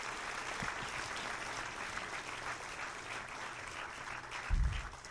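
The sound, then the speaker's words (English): Steady applause from an audience for the event's sponsors, a dense wash of many hands clapping at moderate volume, with a brief low thump near the end and no one speaking. “Please, let's have a round of applause for the wonderful sponsors.”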